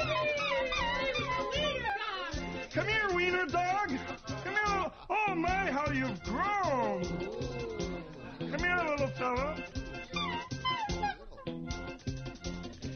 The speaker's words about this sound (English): That's my Wiener Dog. He wants to come out and play with you.